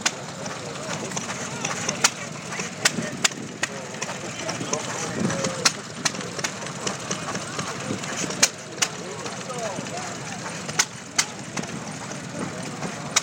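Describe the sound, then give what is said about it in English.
Cordoned-off steam engine machinery runs in a steam section where machines turn barrels, with a steady mechanical rumble punctuated by sharp, irregular clanks and ticks, while indistinct voices murmur in the background of a busy space. “They're all cordoned off, unfortunately, because of the moving machinery.”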